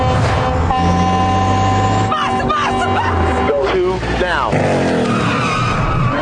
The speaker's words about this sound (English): There's a bunch of tires squealing and all that kind of good stuff.